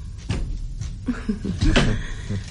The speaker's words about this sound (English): Shut the door and take the key of the inside.